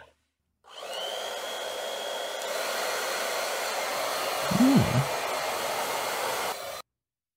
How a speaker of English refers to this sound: Here we go. We're going to go to the second hair dryer.